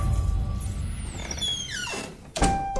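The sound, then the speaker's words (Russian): The door of a house creaks shut with a descending squeal of the hinges, then closes with a solid thump over a low rumbling background; in Norway on a grey, cold, foggy morning, 24 June 1893. “Только что за моей спиной закрылась дверь моего дома.”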